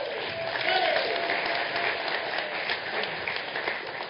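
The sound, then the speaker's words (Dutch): An audience applauds a ChristenUnie election candidate, list 5: a dense, even wash of clapping that holds at a constant level for about four seconds with no voices standing out. “Lijst 5, hartelijk applaus voor Roelof Siepel, de ChristenUnie.”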